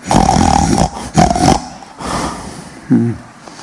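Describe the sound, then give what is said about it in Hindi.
A thunderous, growling roar of Lord Narasimha, sounding from a pillar, bursts out loud in two long surges, fades into a rumbling snarl, then ends with a short deep grunt, with no talking. “गर्जना सुनी। तो देख रहा था ये कहां से, साउंड और कहीं से नहीं आ रहा था, वो साउंड सीधे उस खंभे से आ रहा था।”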